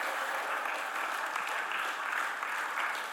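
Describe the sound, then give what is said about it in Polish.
An audience at a prayer service applauds to give praise to God, a steady, dense wash of clapping that holds at an even level throughout, with no voices standing out above it. “Oddajmy Mu chwałę naszymi oklaskami i przyjmijmy to namaszczenie.”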